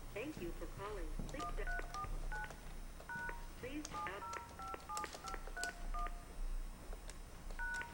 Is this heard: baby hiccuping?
no